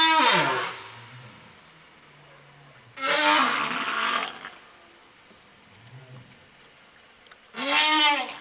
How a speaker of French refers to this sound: Ah, des bruits de baleine.